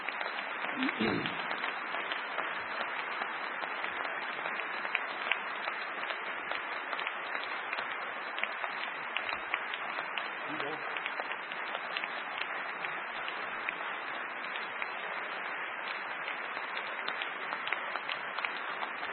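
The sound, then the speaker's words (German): Strong, sustained applause from a large audience welcoming Klaus Kinkel, former FDP foreign minister, a dense wash of many hands clapping steadily for the whole stretch without letting up, with no one speaking over it. “Lieber Herr Kinkel, der kräftige Beifall war die freundliche Einladung, recht viel Wahlkampf für uns zu machen.”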